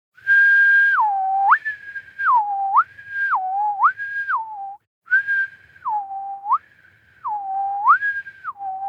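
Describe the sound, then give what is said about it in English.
A person whistles a clear two-note pattern of a high and a low tone for a headphone listening test, repeatedly sliding between the higher and the lower pitch in a steady rhythm, with one short pause midway and no talking. “I'll whistle the tone while we wait.”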